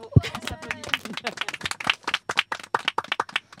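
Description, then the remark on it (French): Applause from a small group for quiz participants: a quick burst of dense, irregular hand claps that continues steadily throughout, with some voices mixed in underneath. “Bravo à vous, on vous applaudit.”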